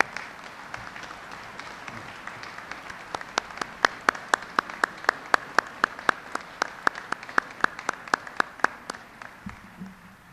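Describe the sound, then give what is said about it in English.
Audience applause recognizing the national leaders of veterans' organizations: a run of crisp, evenly spaced claps builds after a quiet start, holds a steady rhythm for several seconds, then thins out, with no talking. “Ladies and gentlemen, please join me in recognizing our veterans' national leadership with your applause.”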